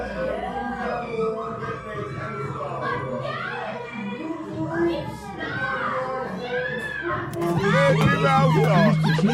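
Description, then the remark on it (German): A noisy teenage party next door: a dense babble of young voices chattering and shouting over each other, rising near the end into louder, high-pitched whoops and squeals. “So unerträglich, so eine Teenager-Party miterleben zu müssen.”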